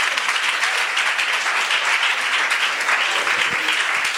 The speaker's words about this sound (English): Hey, give them a round of applause.